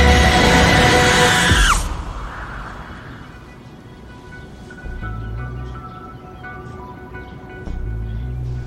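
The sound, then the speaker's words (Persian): A loud, piercing scream held for nearly two seconds, ending with a sharp downward drop in pitch, followed by a quiet, rumbling background with no voices. “خب بذار بترکه. جیغ بکش با بلندترین صدات.”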